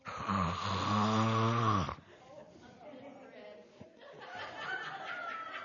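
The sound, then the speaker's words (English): A loud, drawn-out snore, apparently imitated by a voice, rumbles for about two seconds, then fades into quieter murmuring and faint speech. “Don't start that snoring.”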